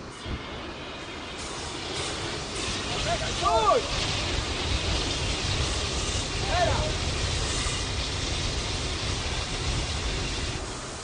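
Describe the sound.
Steady, loud rushing hiss of a fire hose spraying water to push back flames during a volunteer fire brigade training exercise, continuous throughout, with a couple of brief muffled voice calls rising above it.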